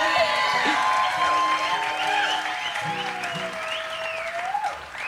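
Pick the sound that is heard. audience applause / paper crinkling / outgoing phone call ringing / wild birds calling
audience applause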